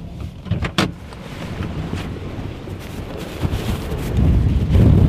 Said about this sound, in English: Now, as you can hear, it's extremely windy here, gale force winds